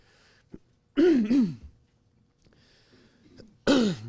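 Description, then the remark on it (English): Someone clears their throat in three harsh, rasping bursts: two close together near the start, then a short pause and a final forceful one. It is fairly loud, with no talking. “I'm making you clear your throat now.”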